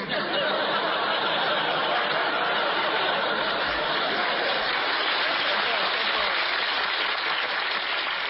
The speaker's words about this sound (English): Please, there's two ways to take that applause.